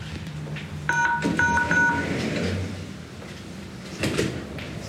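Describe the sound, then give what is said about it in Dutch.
A short series of electronic beeps, like an entry buzzer, is followed by the low rumble and clatter of a door being opened for visitors at the Radio Capelle studio, with no one speaking. “Ja, ik zal hem even voor je openmaken.”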